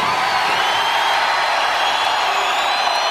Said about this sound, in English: You sound like a very energetic crowd.